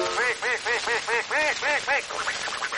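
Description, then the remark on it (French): A human voice mimics a duck, giving a rapid run of about eight nasal quacks in a steady rhythm, loud, trailing into a few softer, rougher quacks at the end. “je préfère le canard au navet. Et le canard, c'est comme cela.”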